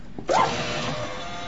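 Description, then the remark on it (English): An office printer reporting a paper jam when there is none starts up abruptly with a short warbling tone, then settles into a steady, fairly loud mechanical whirring hum with no voices. “Why does it say paper jam when there is no paper jam?”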